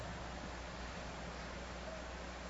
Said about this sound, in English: Surf in nature is always nice, but this surf, this is the ocean.